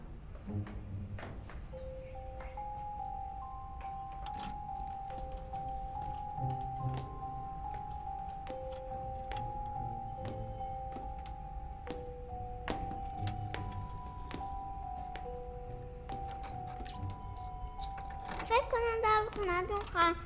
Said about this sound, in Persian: دیگه باز نمیشه. ای بچه جون چیکار داری میکنی با در خونه مردم؟